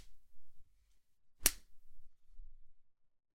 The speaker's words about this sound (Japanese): こんなに鞭で叩かれてさ。